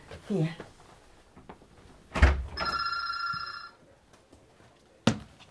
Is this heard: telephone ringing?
yes